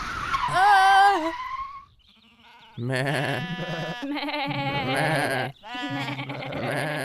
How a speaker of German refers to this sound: Nein, aber da auf der Weide stehen zwei kleine Schafe.